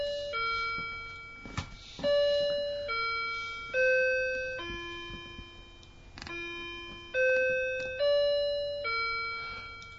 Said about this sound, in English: Sorry, I just thought I'd wait out my clock, which was chiming in the background.